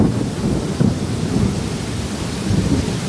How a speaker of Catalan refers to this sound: Aquest és l'ambient d'aquesta matinada, per exemple, al barri de les Corts de Barcelona. Durant la nit ha continuat plovent, però de moment no consten afectacions greus com a conseqüència d'aquestes tempestes i pluges